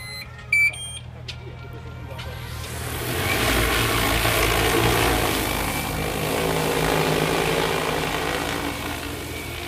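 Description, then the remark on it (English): A few quick electronic beeps, then a loud, steady multi-rotor buzz swells up as a large agricultural spray drone lifts off and hovers, droning continuously with a broad whirring hum. “So normally with these drones, you're looking at 6 meters high. And that gives you a really, really nice spray swath and good coverage.”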